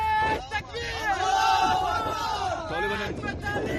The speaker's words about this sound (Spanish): Y estos no son gritos de celebración de los islamistas, sino de los soldados del ejército afgano que prometen seguir defendiendo su país.